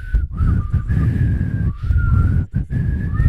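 Someone whistles a slow, sustained tune in a ballad style, the long notes gliding with brief breaks between phrases, over a constant low rumbling background noise.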